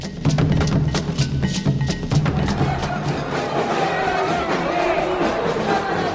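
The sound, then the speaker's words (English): A large marching crowd at the opening march of the World Social Forum in the center of Porto Alegre, Brazil, after tropical rain, with groups carrying banners and chanting, fills the air with a dense, steady roar of many voices, with sharp rhythmic hits like drums or claps in the first couple of seconds. “Wednesday afternoon, right before the inauguration, an endless crowd of people flooded the center of Porto Alegre.”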